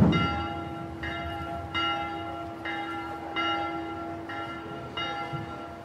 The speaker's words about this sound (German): Wahrscheinlich ist es genau 12 Uhr. Jetzt hat die Kirchenglocke, da eine kleine war das, geläutet.